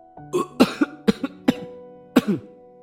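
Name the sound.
coughing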